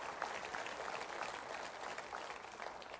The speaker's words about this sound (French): Que ceux qui l'ont expérimenté applaudissent avec moi ce matin.